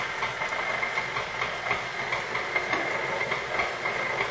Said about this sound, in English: Now, we're going to turn on the blender again, slow speed.